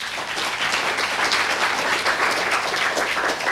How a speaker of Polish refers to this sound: Brawa wielkie.